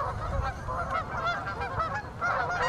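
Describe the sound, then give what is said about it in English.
A flock of geese at Lake Merritt honks continuously, their nasal calls overlapping in a loud, busy chorus over a low background rumble, with no one speaking. “Any of the boaters complain about the geese”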